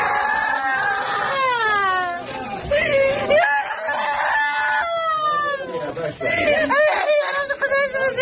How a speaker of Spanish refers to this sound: Una mamá llora a gritos después de que el doctor le acabara de comunicar, en una sala de urgencias plagada de pacientes, que los esfuerzos para salvar a su niña pequeña han sido inútiles.